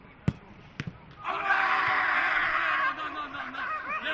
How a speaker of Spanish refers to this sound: Ese que grita es … después de un gol de Abdón en el entrenamiento.